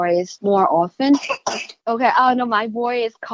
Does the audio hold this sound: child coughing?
yes